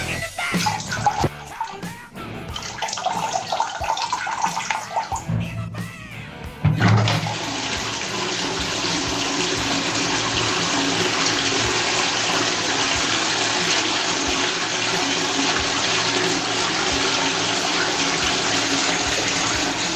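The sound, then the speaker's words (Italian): After a few seconds of quieter, uneven sound, a toilet flush begins with a sudden loud whoosh and settles into a steady, hissing rush of water that continues to the end, with no talking. “Dopo una giornata stancante, sono sulla tazza del cesso, sto cacando e ascolto la Zanzara.”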